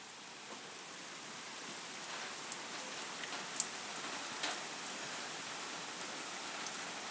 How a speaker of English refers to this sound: And now we have got this. Beautiful rain.